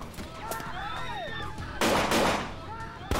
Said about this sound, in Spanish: De repente, se desató la locura. Había muchos, muchos disparos.